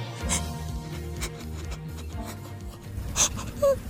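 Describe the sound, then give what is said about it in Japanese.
A person cries, with shaky, breathy sobs and a few sharp, gasping inhales breaking through a steady whimpering moan. “まだ泣いてんのか。”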